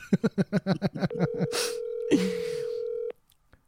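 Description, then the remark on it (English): Telephone dialing: a quick run of about nine short, evenly spaced beeps, then a steady mid-pitched tone holding for two seconds with a couple of brief noisy bursts over it, cutting off abruptly. “we're taking a call.”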